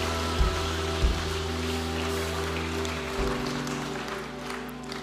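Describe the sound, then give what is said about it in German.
Sustained audience applause during a church service, after a prayer, fills the whole clip: a dense, steady patter of many hands clapping at an even level, with a few louder low thumps near the start. “Komm, lass uns einen Applaus geben.”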